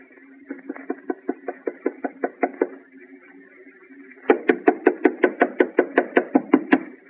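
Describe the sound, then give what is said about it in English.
Rapid knuckle knocks on the door of a house, a quick run of about a dozen light raps, a brief pause, then a louder, harder burst of rhythmic knocking. “Harder, Alice. Knock harder. I can't. It hurts my knuckle.”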